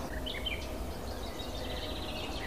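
A warbler sings in short, bright, scratchy phrases, faint, over a steady rumble of background noise, with no one talking; it is in a dense hedge by an ant hill where many warblers sit.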